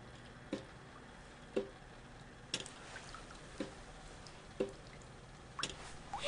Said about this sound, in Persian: این هنوز چکه می کنه که چرا مبتنی درستش نکنه